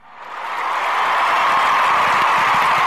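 A round of applause swells over the first second, then holds as a steady, dense wash of many hands clapping, with no voices over it.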